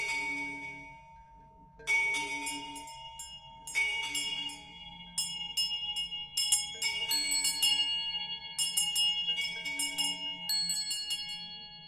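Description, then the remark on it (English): A ritual hand bell, paired with a dorje, rings repeatedly with bright, shimmering strikes, its clear metallic tones sustaining and overlapping between jangling bursts, fairly loud with no voices. “This bell and this Dorje, these are the symbols of emptiness and form.”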